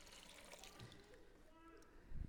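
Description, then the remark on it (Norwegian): Water is poured steadily into a washbasin, a soft continuous splash and trickle heard fairly quietly, ending with a brief low knock as the pouring stops. “Og så helte han det opp i vaskevannsfatet, sånn her.”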